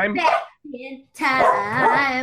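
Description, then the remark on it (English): A dog, Commander BB, barks loudly in two drawn-out, strained bursts, with a softer whining sound between them. “Wait, you got a dog.”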